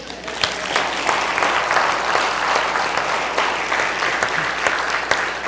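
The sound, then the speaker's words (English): An audience claps together in sustained, steady applause for a glorious day, a dense wash of many hands with a few sharper claps popping out, even in loudness throughout. “And I did forget to say, hey, let's applaud this glorious day.”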